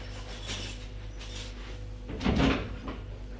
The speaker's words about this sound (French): Puis, elle quitte la pièce en vitesse. tremblante, honteuse, et referme la porte à clé.